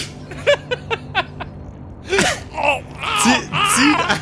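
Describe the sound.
A voice acts out heavy snorting and gasping while pulling on a blowpipe like a bong: a quick run of short, sharp breaths, then several loud, drawn-out gasping inhales with a moaning edge, alone.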